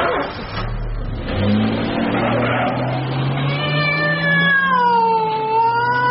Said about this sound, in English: Oh, you make more noise than a castrated cockerel. Your whining caterwaul is worse than my bloody doggerel. Black and white cat.